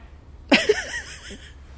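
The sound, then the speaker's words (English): A sheep gives one quavering bleat lasting about a second, its voice wobbling up and down before fading, heard alone against a quiet background at a house in an area with no farms nearby. “That is the most bizarre thing I've ever heard in this house, at this house, in this area. Nobody has sheep in this area.”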